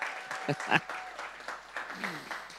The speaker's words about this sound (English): Well, praise the Lord. Man, give Jesus a big hand clap if you love the Lord.